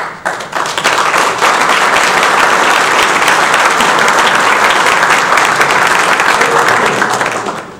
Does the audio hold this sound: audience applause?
yes